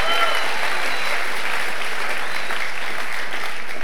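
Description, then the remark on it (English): A crowd breaks into sustained applause for the pastor and his wife, a dense, steady wash of clapping that stays loud and even for the whole few seconds with no voices standing out. “Come on, let's give Pastor and wife a big clap one more time.”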